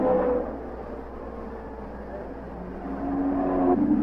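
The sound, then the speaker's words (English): Andretti's race car, back in the race with a new clutch, roars with a high, buzzing whine. It dips slightly in the middle, then swells louder again toward the end, as if surging past. “Andretti pushes hard to make up those lost laps.”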